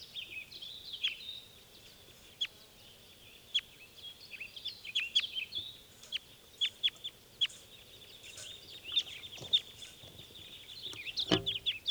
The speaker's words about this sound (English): And those were the wild birds taking off.